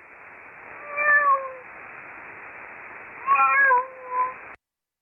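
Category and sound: animal, cat meowing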